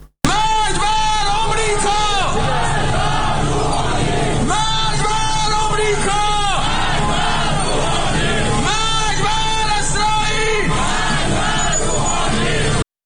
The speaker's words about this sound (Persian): این تصاویر نشان می‌دهد موتورسواران در پاسخ و تکرار شعارهای علیه آمریکا و اسرائیل علیه رئیس جمهوری اسلامی ایران نیز شعار می‌دهند.